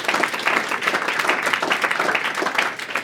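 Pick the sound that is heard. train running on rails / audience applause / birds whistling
audience applause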